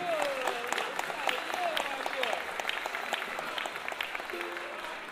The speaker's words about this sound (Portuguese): Mas, gente, é muito pouco aplauso